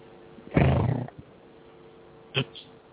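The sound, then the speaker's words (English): A single loud, rough lion roar bursts out for about half a second, followed by quiet and then a much shorter, fainter grunt near the end. “He turned into a lion.”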